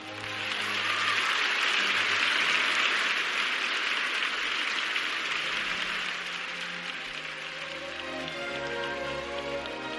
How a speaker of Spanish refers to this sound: Los aplausos en directo, porque no habrá alfombra roja, ni público, ni presencia de nominados,